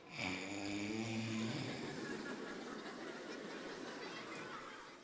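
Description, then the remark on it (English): A sleeping father snores gently: one low, buzzing snore rumbles for about a second and a half, then trails into a long, soft, breathy exhale. “You could even hear their dad's gentle snore.”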